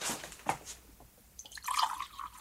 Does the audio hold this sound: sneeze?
no